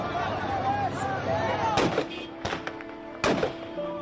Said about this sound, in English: Outside the airport, even more chaos. Taliban members firing in the air to assert their authority.